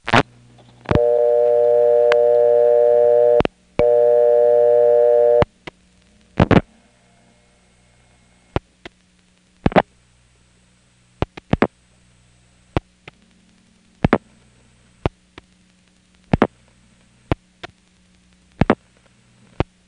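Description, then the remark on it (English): Call progress sounds of a call going through a Crossbar 5 telephone exchange: a steady buzzing tone with one brief break, then a string of sharp, irregularly spaced switching clicks over a faint low hum. No one speaks. “Here's another Crossbar 5 call, which goes through the same way as the last one.”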